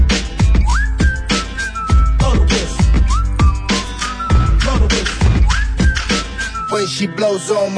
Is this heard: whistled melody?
yes